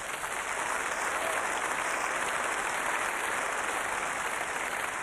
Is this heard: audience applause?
yes